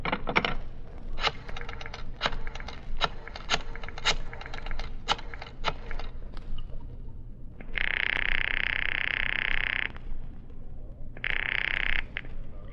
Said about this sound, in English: The sound of the flipping of pages.